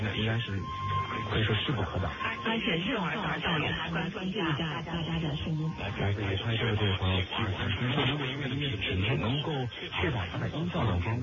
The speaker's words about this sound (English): This is described as Chinese lyric multi-echo jamming recorded back in Asia. That is something else that the Chinese do in order to block international broadcasts.